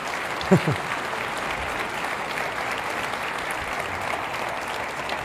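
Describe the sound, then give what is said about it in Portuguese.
A church audience applauds the Lord for the life of a man, a dense wash of clapping that holds at an even level throughout, with a brief burst of voice near the start. “Podemos aplaudir ao Senhor pela vida desse homem?”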